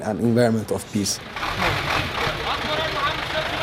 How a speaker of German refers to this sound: Auf dem Markt in Asmara quetscht sich ein frisch eingetroffener Laster aus Äthiopien in eine schmale Parklücke.